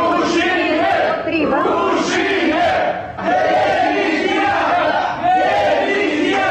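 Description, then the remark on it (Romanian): A large crowd of initiative group representatives boos and shouts "shame" and "resignation" loudly and continuously as they leave the CEC hall. The mass of voices surges in repeated phrases with brief dips about every two seconds. “Ei au încercat să respingă prin argumente constatările CEC, ulterior au părăsit sala strigând rușine și demisia.”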